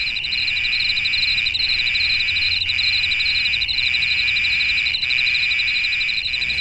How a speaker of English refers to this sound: Cicadas, small, noisy, flying insects, are about to erupt straight out of the ground right across 16 US states. From Alabama in the south to Illinois in the north, from Maryland in the east to Oklahoma in the west.